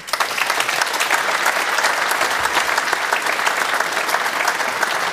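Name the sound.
applause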